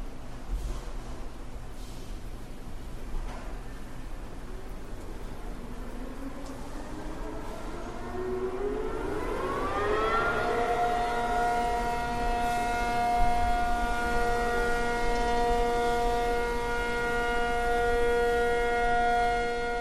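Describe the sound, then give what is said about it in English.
Over a steady low hum, a siren for Taiwan's annual air raid drill winds up in pitch and then holds a long, loud, sustained wailing tone with rich overtones. No one speaks. “That's the annual Taiwan air raid drill.”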